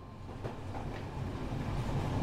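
A train clatters along the rails with a steady, low rumble that slowly builds, a couple of faint knocks breaking through early on, and no voices.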